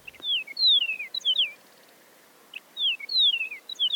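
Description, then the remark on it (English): Two bursts of clear, high whistled song from a Chihuahuan meadowlark, each a quick run of sliding, descending notes, separated by a short pause; loud, with no other sounds. “The research suggested that song differences could help prevent Chihuahuan meadowlarks from breeding with other species, and that eastern and western meadowlarks are more closely related to each other than they are to the Chihuahuan birds.”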